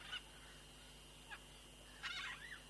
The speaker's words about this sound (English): Oh, the sound of these birds is very beautiful. I can recognize some of these sounds.